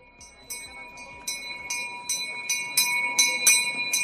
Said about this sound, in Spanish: Ocho y cuarto de la mañana, los niños carráncanos hacen sonar la campana para que la procesión del Corpus arranque en este soleado y caluroso día de San Fernando.